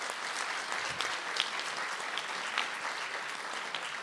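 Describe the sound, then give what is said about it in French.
An audience claps steadily for about four seconds for young readers at a tribute to Michel Peyramort, a dense, even wash of many hands with no break or build, and no one speaking over it. “Allez, on les applaudit pour leur montrer qu'ils n'avaient pas le trac quand même.”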